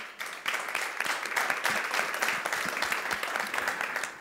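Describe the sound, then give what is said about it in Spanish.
A crowd claps steadily for several seconds for two businesswomen being introduced, a dense, even wash of many hands with a bright, crackling texture and no voices standing out. “Un buen aplauso a las dos.”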